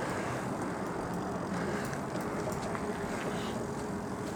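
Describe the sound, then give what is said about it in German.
Steady, loud rumbling engine noise mixed with buffeting wind on the microphone, continuous, from riding a motorized tricycle with automatic transmission on a street; no voices are heard. “Okay, ich schiebe da gleich mal was ein, ne? Zum Thema Schalten und Motor und Dreirad.”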